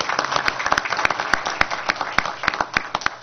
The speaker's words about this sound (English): Oh, a well-deserved round of applause.